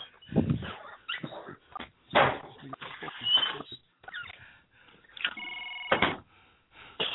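A phone ringing on an outgoing call, heard as one steady buzzing tone partway through, surrounded by irregular muffled thumps and rustling bursts over a thin, telephone-like sound.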